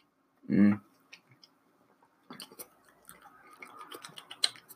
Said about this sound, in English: Like, for instance, this Hop Hazard Double IPA. Let me take a sip real quick and tell you the aftertaste. Hold on.